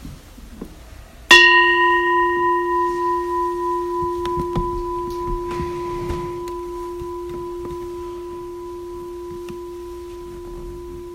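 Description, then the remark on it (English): A single meditation bell is struck once at the start of a seated meditation. It rings out with a clear, steady tone, its shimmering hum slowly fading over about ten seconds in quiet. “And we'll start and end with the bell.”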